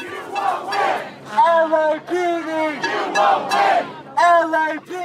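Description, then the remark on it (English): A protest crowd at Echo Park, Los Angeles, shouts at police who were ordered to clear a homeless camp, in loud, overlapping bursts, several strained voices rising and falling together in rough, chant-like waves with brief dips between them. “Over the course of a day and a half, protests picked up steam. Much of it directed at police, who had orders to clear the park and then the streets.”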